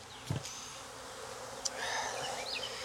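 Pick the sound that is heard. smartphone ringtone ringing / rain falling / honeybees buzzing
honeybees buzzing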